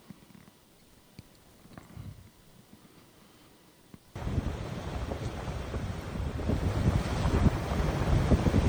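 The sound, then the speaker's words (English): Water churns and splashes, starting as a low, rumbling wash, then abruptly swelling into a loud, full rush of turbulent water that continues steadily to the end, with wind buffeting the microphone. “The churning, splashing, rushing water. Isn't that gorgeous?”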